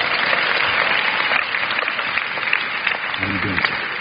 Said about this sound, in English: Give Dr. Dollar a hand clap. That was wonderful.